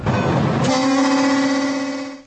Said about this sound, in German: In Tschechien ist das Warnsignal der Züge ziemlich oft zu hören. Der Grund dafür ist simpel und alarmierend zugleich. Auf dem knapp 9600 Kilometer langen Schienennetz gibt es nicht weniger als 8161 Bahnübergänge.